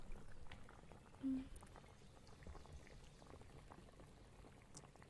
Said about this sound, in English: And let me just turn this kettle off.